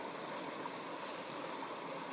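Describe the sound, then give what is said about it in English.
A small flowing stream spills steadily over a tiny waterfall onto a collection of rocks, a continuous rush and burble of water with no voices, soft and even throughout. “You can hear the sound of the water over a tiny little waterfall connecting to a collection of rocks.”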